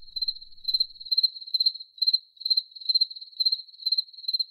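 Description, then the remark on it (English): Crickets chirp in a steady, repeating pulse, bursts of shrill trilling coming about twice a second with brief gaps between, clear with no other sounds. “Those were crickets.”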